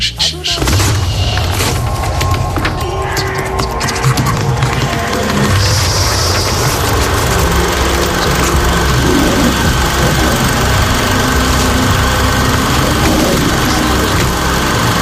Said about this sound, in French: avec ce lion de la MGM et le son de la pellicule qui tourne sur le projecteur